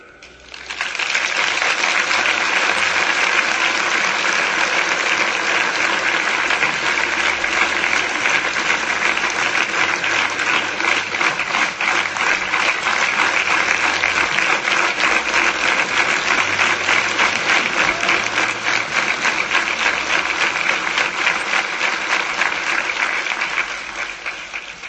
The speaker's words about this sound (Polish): święty Jan w niebie słucha, jak tutaj go oklaskujecie.